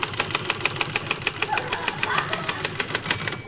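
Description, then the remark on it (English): A voice imitates a typewriter with a fast, steady run of sharp clicking taps, repeated evenly for several seconds at a moderate level with no words spoken, as a man bends over a typewriter at a desk to show how typing is done. “See, you just bend over the typewriter like this, and you go...”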